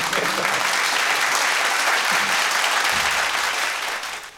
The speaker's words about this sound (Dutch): Weer een applaus.